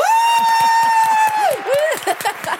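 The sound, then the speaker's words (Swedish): A short inserted celebration effect: a crowd cheering and clapping in a quick steady rhythm, topped by a long sustained whistle-like tone that dips and rises before fading. No one speaks. “Vänta, vi måste lägga in applåder, det här är stort,”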